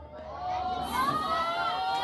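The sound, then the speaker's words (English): A baseball crowd's murmur swells into an uneasy collective reaction as a foul ball hits a car, a sustained wash of many voices rising after a moment and holding steady, moderately loud. “You might hear the crowd with the worried concerns as it does hit a car.”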